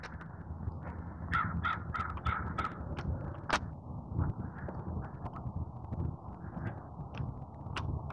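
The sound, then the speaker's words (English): Several crows caw harshly in irregular bursts over steady outdoor wind noise, some calls loud, others fainter. “Crow having issues. There's been several crows.”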